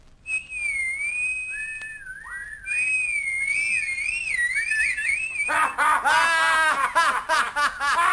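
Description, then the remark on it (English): A person whistles a wavering, sliding tune for several seconds, clear, before it breaks off into a burst of loud, rhythmic laughter. “Don't you know how to whistle, Jonah? I'll show you.”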